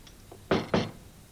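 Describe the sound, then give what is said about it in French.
Two firm knocks by the priest of Cucugnan on a silver door, evenly spaced about a quarter second apart, fairly loud against a quiet background. “Qui frappe ?”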